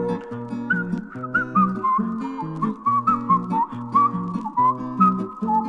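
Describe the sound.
In a song, a bright, wavering whistle like a rubber hedgehog toy whistling through a hole in its side carries a playful tune over steady instrumental backing, squeaking up and down in short phrases, with no voices.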